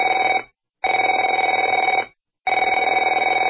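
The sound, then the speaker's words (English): A telephone rings loudly in rapid trilling bursts, three rings separated by short pauses, with a bright, buzzy, steady pitch and no voices. “Afraid to answer it?”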